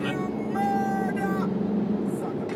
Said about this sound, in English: Stuck behind a bus. Story of my fucking life.